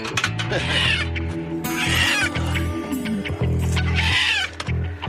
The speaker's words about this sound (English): My tracking skills tell me there are chickens in the area.